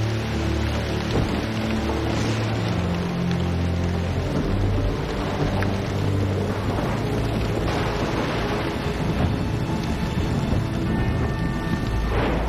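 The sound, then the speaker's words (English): Heavy driving rain pours down on a woman as she scurries back home, a steady, dense hiss that never lets up, with low sustained tones droning underneath and no voices. “The driving rain pours down on her as she scurries back.”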